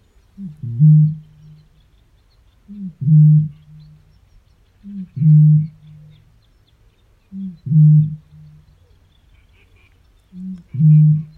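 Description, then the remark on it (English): A deep, hollow booming bird call repeats five times at steady intervals of about two seconds, each a short low resonant hoot like breath blown across a bottle mouth, with quiet gaps between. “It carries sometimes for over a kilometre in the right conditions, and it sounds to me like someone blowing over the top of a milk bottle. This really low resonant sound.”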